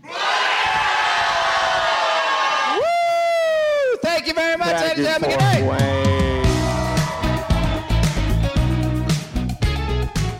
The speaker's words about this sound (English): Everybody yell bananas as loud. This is going to end the episode. One, two, three.